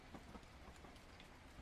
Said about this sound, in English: On a train to somewhere.